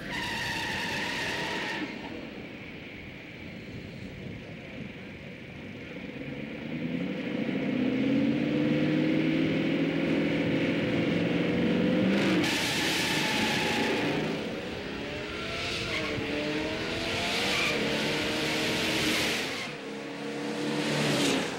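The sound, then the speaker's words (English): The loud engine of a bone-stock Boss 429 drag racing car roars and revs repeatedly over three runs, its pitch climbing in long sweeps as the car launches hard with wheel spin, with sharp bursts of roar breaking in between the runs and no talking. “We have 3 runs because the first run I got too much wheel spin.”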